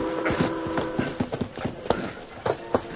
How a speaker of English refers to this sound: The great-hearted stallion Silver seemed to sense that something was wrong and bent his efforts to greater speed